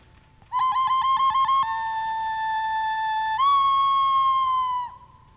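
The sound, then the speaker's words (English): A person whistles an imitation of a bird call: a quick warbling trill, then a long steady note that steps slightly higher before cutting off. Clear and alone, with no talking. “But every once in a while, she'd hear the call of that bird.”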